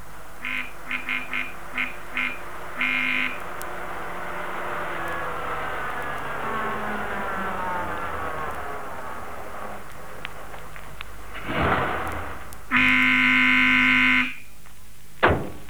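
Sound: car arriving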